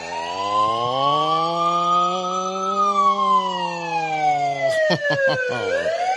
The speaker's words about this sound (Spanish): En este momento son las sirenas que anuncian que los Reyes Magos están llegando